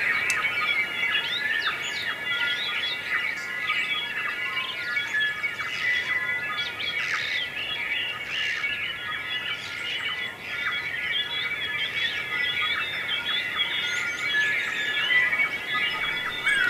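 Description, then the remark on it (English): A dense dawn chorus of native forest birds at Orokunui, many overlapping chirps, whistles and trills filling the air continuously at a steady, moderately loud level with no voices. “This is a recording of the dawn chorus at Orokunui.”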